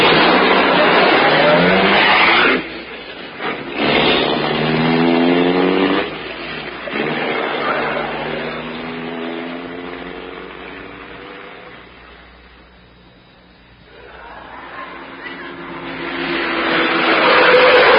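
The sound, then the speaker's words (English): A racing car engine roars loud, its pitch climbing and dropping as it revs through gears, easing off briefly midway before surging back up to full power. “In this racing car this time.”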